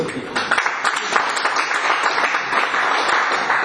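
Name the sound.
applause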